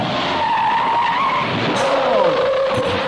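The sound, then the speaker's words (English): A small Fiat car skids during a stunt drive with a loud, sustained tire squeal that holds steady, then drops lower in pitch partway through, backed by engine and road noise throughout. “Yet in the more than 100 films Remy Julien has made, he's done more stunts in Fiats than in any other car.”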